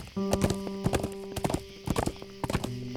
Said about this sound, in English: Famine clicks his tongue, and turning his horse around, the two of us take off.